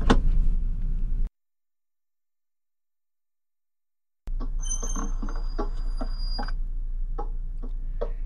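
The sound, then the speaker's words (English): A short burst of noise, then silence, then a car's steady low engine rumble starts up, with a regular ticking like a turn signal clicking over it as it pulls away to follow a huge black truck. “We should follow him. What? In the car!”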